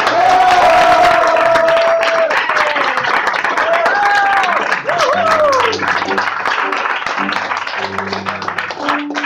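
An audience claps warmly and steadily for several seconds to welcome a performer about to sing a goguette, with scattered cheers and whoops rising above the dense, loud applause throughout.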